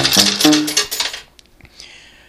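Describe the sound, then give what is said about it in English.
Three metal tokens drop into a slot machine in a quick cluster of bright clinks and jingles, ringing briefly before a few faint clicks and a light chime as the sound fades. “I'm going to put in 3 coins, tokens.”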